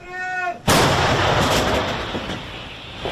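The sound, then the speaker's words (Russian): After a short shouted command, "One shell, fire!", a Ukrainian brigade's artillery gun near Serhiivka, south of Kupiansk, fires one round with one sudden, deafening boom, followed by a long, rumbling roar that slowly fades over the next few seconds. “Один снаряд, огонь!”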